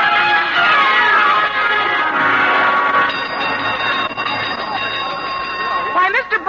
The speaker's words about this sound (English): what made you ring the gong for a fire drill?